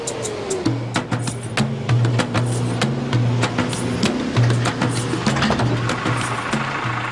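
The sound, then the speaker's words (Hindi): A vehicle engine runs steadily, its low rumble shifting slightly in pitch, with sharp clicks and rattles scattered over the top throughout. “इसको बंद करो, बंद करो गाड़ी को, बंद करो भाई।”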